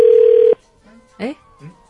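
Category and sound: signal or alarm, telephone dialing tones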